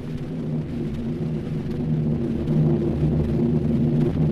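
Mitchell bombers roar overhead during the air attack on Cassino, following Flying Fortresses and Liberators, in a steady, droning engine rumble with layered low tonal hums that hold level and slightly swell toward the end, with no voices.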